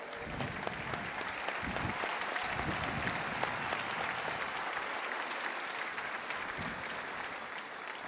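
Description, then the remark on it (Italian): Sustained applause from a large crowd thanking a churchman for all he has done for the Church, dense and steady clapping for the whole stretch, with a faint murmur of voices underneath. “Ringraziamo a lui tutto che ha fatto per la Chiesa e un applauso.”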